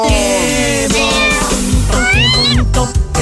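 A cat meows loudly and repeatedly, with drawn-out, rising and falling wails running together over about three seconds; no one speaks.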